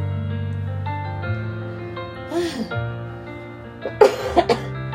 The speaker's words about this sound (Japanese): 今日も咳をしながらもお時間が参りました。